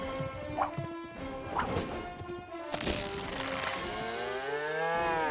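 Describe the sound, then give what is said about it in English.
A cow moos in a long, drawn-out low call that bends downward in pitch toward the end, with a few sharp thumps and clattering hits scattered through the first half. “That big old cash cow.”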